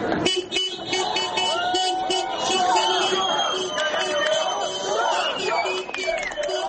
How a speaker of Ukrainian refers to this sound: Тріумфальний хід команди з аеропорту до автобуса супроводжувався фейерверком, а вболівальники скандували футбольні гасла.